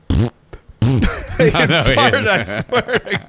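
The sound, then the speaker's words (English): A man of about 25 blows a string of wet, sputtering raspberry sounds to himself while matching screws on a chart. The mouth-imitated farts come in quick bursts of varying pitch, fairly loud, with a snicker mixed in. “Making fart noises to himself.”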